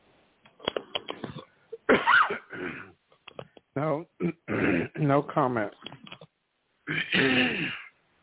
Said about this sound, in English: I hope you get better with that cough or that cold sinus.